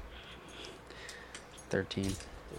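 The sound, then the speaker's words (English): Light metallic jingling of keys clatters softly and irregularly for over a second, then a person's voice breaks in briefly. “Your keys messing get this out.”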